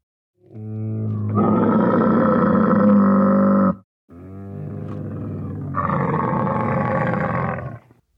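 A camel bellows in two long, loud, guttural roars, each a sustained rumbling groan with a brief pause between them, with no talking over it.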